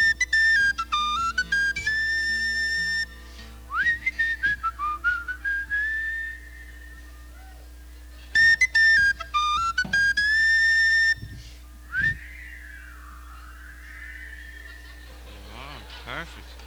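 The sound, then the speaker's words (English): An audience whistles a simple song tune together in several melodic phrases separated by short pauses, fairly loud, over a steady low background hum, with no one talking. “I'd like you all to help me in this and do a little bit of whistling.”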